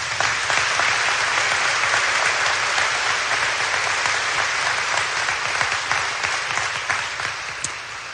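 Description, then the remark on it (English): A large audience applauds a final group of award recipients steadily, dense clapping at a consistent volume before gradually tapering off slightly near the end, with no talking. “Please join me in giving this final group a round of applause.”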